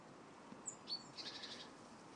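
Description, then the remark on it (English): Coal tits, blue tits and great tits call from a bare apple tree in short, high-pitched bursts: a couple of thin chips, then a quick trilling run of notes, fairly faint over a steady background hiss. “Coal tits, blue tits, great tits, all in the apple tree.”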